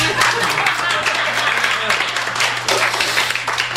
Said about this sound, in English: A round of applause.